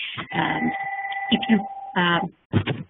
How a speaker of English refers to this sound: These phones are going crazy today.